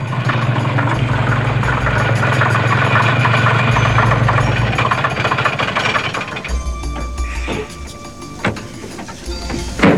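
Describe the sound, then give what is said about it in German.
A heavy truck engine idles loudly, a steady low rumble with rattling clatter that shifts in tone partway through, with no voices. It is the truck that has just given a ride to Citrus Grove, a small community in the California mountains. “Im Lastwagen eines Bekannten fuhren sie mit nach Citrus Grove, einer kleinen Gemeinde im kalifornischen Bergland.”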